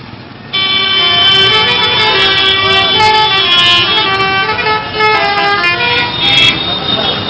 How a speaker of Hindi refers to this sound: ठीक है, ये है इनक्रेडिबल इंडियन ट्रैफिक।